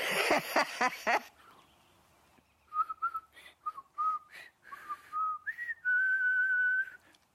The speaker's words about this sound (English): Now, when my kids were young, we came up with a family whistle.